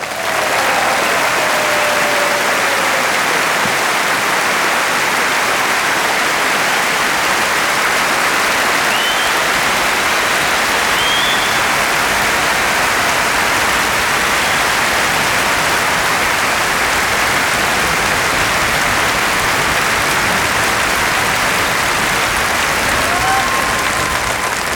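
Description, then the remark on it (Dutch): Loud, sustained audience applause welcoming an opera singer who came from Australia, a dense wash of many hands clapping steadily for about twenty-five seconds, with a few faint whoops rising above it and no talking. “Geef er een enorm applaus.”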